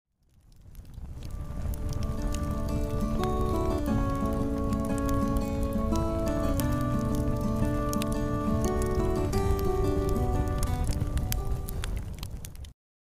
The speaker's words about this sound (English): Okay, do I hear a campfire? Do I hear a campfire tune?